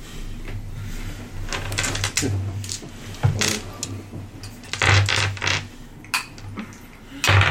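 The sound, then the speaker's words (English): A handful of seven purple and silver gaming dice of varying sides, taken from a bag, clatter and click together, a string of sharp, irregular plastic taps over several seconds above a low, steady background hum. “Pulls out a bag of holding, reaches into it, pops out with a handful of purple and silver gaming dice.”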